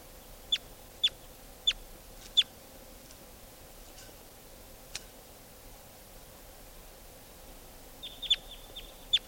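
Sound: birds calling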